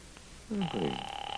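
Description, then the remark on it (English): A phone line rings on an outgoing call to the Owl Diner, a steady electronic tone starting partway through and holding to the end, clear, briefly overlapping a low croaky vocal sound. “I'm going to get them on the phone right now.”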